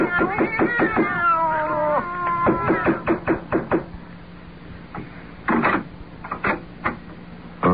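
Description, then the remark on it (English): Several cats meow and caterwaul from behind an apartment door in overlapping, wavering yowls for the first few seconds, followed by a series of sharp, irregular knocks, like rapping on a wooden door. No one speaks. “You didn't hear the sound of cats just now?”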